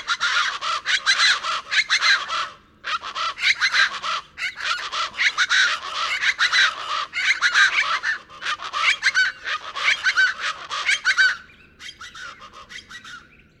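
Plain chachalacas in the lower Rio Grande Valley of Texas sound their wake-up call in a loud, raucous chorus, harsh rhythmic cackling bursts repeating almost nonstop with brief pauses, dense, fading to a thinner tail at the end.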